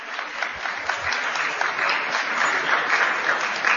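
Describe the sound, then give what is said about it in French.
An audience at a workshop session applauds the presenters, clapping steadily throughout, a dense, even patter of many hands at a sustained, fairly loud level with no voices over it. “Merci de les applaudir parce que l'exercice n'est jamais très évident.”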